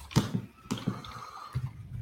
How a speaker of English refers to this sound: Apparently your chair needs some WD-40, according to Bungle. Okay. Yeah, the chair and my jaw. I don't know if it's the chair or my knees. It could be anyone. I actually said it's my joint. I'm thinking it's my joints.